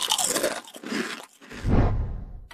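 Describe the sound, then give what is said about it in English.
Loud crunching of potato chips: a few sharp, brittle bites, then a brief lull and heavier, muffled chewing. No one speaks. “But whether you like them crunchy or quiet, where did the first potato chips come from?”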